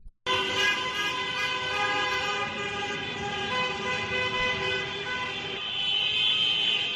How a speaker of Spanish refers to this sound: haciendo sonar los claxon, acompañando al equipo